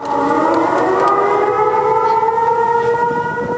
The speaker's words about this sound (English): Sirens blared across campus yesterday as the school went under lockdown. At 12:55 p.m., Alert Carolina sent an emergency notification about an armed, dangerous person on or near campus.